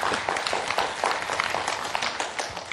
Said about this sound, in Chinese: 再讲个笑话给你们听好不好？拜托跟我鼓掌一下，我喝个水。